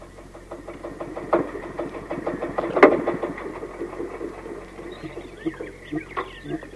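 An old tractor engine chugs steadily, its rapid rhythmic putter holding a loud, even pace, with a brief louder rattle partway through before it settles into a rougher idle.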